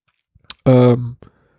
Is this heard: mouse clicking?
yes